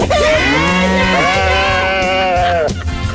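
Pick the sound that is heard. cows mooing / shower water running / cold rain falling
cows mooing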